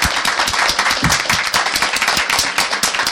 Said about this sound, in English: Please join me in giving a round of applause to our panelists.